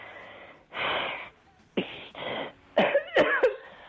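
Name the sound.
cough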